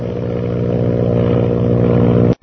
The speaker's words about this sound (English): As Shanghai Lil's plane continues to spin crazily toward the ocean, the ship bearing the mysterious purple triangle roars on its way northward. Suddenly, Lil pulls her plane out of the spin.